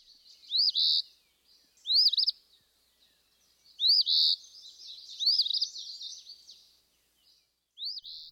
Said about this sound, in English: And also you mentioned phoebes. Let's hear from the eastern phoebe.